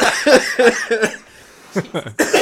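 A series of close, harsh coughs: three quick bursts, a short quiet pause, then several more, loud and near the microphone with no talking.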